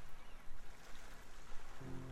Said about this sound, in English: you realize that just by listening to these sounds, you can visualize exactly how they look. With the small waves cascading into bigger waves, a perfect act of nature.